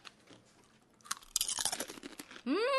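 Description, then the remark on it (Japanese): Loud, crackly crunching of someone chewing fried chicken skin (tori-kawa karaage) as a snack with drinks, a dense run of sharp bites, then a brief rising hum of a voice at the end. “あ、これめっちゃつまみだね、鶏皮。”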